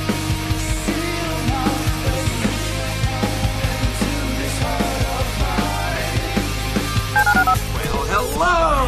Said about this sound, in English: Dial the phone.